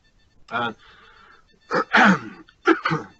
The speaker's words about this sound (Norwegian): Unnskyld for at jeg har en sånn forferdelig kjip hoste.